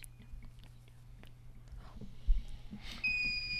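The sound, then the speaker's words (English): Faint murmurs and low hum give way to a sudden, sustained electronic quiz bowl buzzer beep near the end, sounding as a player buzzes in during a Bridgman versus Coloma quiz bowl match; a bright steady tone that rings out loudly and continues until the sound cuts off. “Coloma, I'll give you 5 seconds since she got in right on the buzzer if anybody wants to try.”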